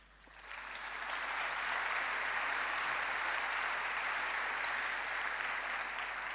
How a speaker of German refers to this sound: Ja, und jetzt kriegen Sie den Applaus, denn ich danke Ihnen allen ganz herzlich für Ihr Kommen.